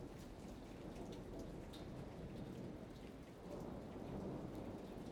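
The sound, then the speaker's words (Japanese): Steady rain drums overhead on a ceiling, a dense, continuous patter with a low rumbling undertone, like a storm heard from indoors, with no voices present. “雨音が天井を打つ音と重なり、椎名の耳に別の音が蘇る。”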